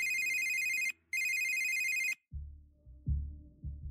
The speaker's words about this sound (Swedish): Plötsligt ekar en ringsignal genom klassrummet. Det ringer och folk börjar fnissa och skratta och sådär, för att de vet ju, shit's about to go down. Elevernas blickar skannar febrilt efter signalens ursprung.